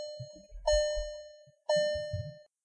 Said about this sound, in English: It has a seatbelt warning on it. And the seatbelt warning, it makes a noise, you know, like, it's as if it's a voice saying, put your seatbelt on, put your seatbelt on. Sounds like this.